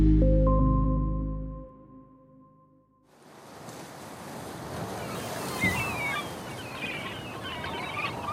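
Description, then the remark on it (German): After a brief tonal chime fades out, a broad wash of North Sea waves and wind on the island of Helgoland rushes in and stays steady, with faint gull cries flickering above the surf. “Wellen, Wasser, Wind, das Krächzen der Möwen, das Knarzen der Leuchtturmtreppen, das Kreischen der Orkanböen, Jaulen, Jammern, Juchzen.”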